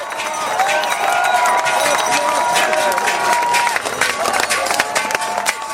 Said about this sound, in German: 24 Stunden lang musste das Diemtigtal auf seinen Schwingerkönig Kilian Wenger warten. Aber als der siegreiche Sohn des Talers gestern Abend per Helikopter im Dorf Eu abgesetzt wurde, kannte der Jubel der Bevölkerung keine Grenzen.